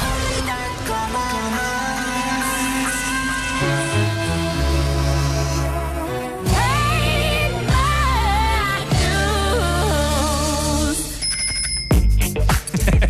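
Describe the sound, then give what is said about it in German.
Music with a melodic vocal line plays, then cuts off as a bright, metallic bicycle bell rings several times in quick succession, clear and crisp. “Ein letztes Klingeln”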